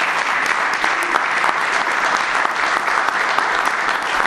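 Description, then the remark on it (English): A crowd applauds steadily at a zoo recognition, honoring commitment to animal welfare at the zoo: a dense wash of clapping hands holding at an even, fairly loud level for several seconds with no voices standing out. “I'd like to applaud and recognize you for your commitment to the excellence in animal welfare at the zoo”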